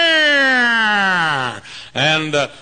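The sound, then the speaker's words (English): A voice imitates a police car siren wail: a long, loud tone sliding steadily downward, a brief pause, then a shorter rising-and-falling whoop, clear with no other sounds. “Police car comes by with siren.”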